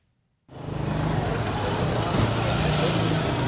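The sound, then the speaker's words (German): Dense street traffic starts abruptly and continues steadily, with low engine rumble and idling vehicles, plus faint murmurs of voices, at a street intersection in Nairobi, Kenya, where drivers of simple taxis wait for customers and hardly any car is younger than 10 years. “Eine Straßenkreuzung in Kenias Hauptstadt Nairobi.”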